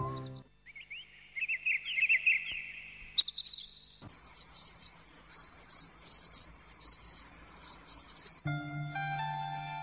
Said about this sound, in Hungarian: Kis tücsök, minden este itt ülök, álmosan hallgatom, hogy zenél a cimbalom. Harsogón messze száll, tétovázva meg-megáll, áradón égig ér, minden éjjel elkísér.